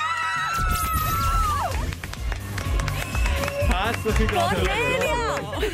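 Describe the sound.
Shrill, joyful screaming as a family wins a new kitchen worth 90,000 francs rises and swoops in pitch over an excited crowd, with overlapping voices, cheering and scattered clapping filling the whole stretch loudly.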